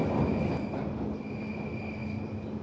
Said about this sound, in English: I hear the clacking sound of the track, a constant soundtrack to people silently reading newspapers and books on the train.